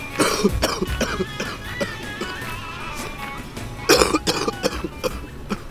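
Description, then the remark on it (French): Two bouts of wet, chesty coughing, each a rapid cluster of harsh, phlegmy hacks, with a short pause between bouts and no talking. “il traîne une toux mûre et grasse, été comme hiver, tout le temps.”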